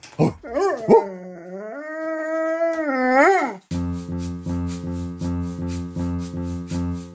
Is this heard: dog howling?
yes